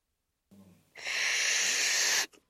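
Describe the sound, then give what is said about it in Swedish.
A voice imitates a balloon being blown up: a brief low hum, then one long, steady, hissing rush of breath lasting over a second, ending abruptly with a short puff. “Vet du hur det låter när man blåser upp en ballong?”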